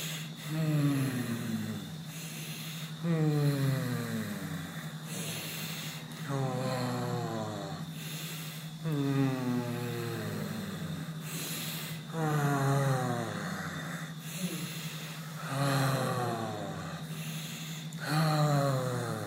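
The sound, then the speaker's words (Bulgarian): Slow, audible exhalations released with a soft voiced sigh during a breathing exercise, repeating about every three seconds, fairly loud, over a steady low droning tone in the background. “Изпускай дъха с звук, с лек приятен звук и нека цялото напрежение, което си насъбрал, да се разтвори с този звук, да си отиде, да изчезне.”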